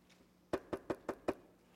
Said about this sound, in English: Sometimes that knock, if you're like me, can be one of the scariest things in the world.